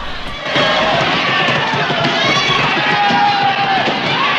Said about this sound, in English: They all sit back in the seat, grinning and waving to the angry crowd. Two police cars arrive, several officers jump out and begin to quickly disperse the crowd.